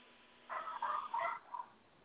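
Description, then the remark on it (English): A dog barks in a quick run of three or four short, yappy barks, slightly muffled, with no one talking. “Ooh, I heard a doggy.”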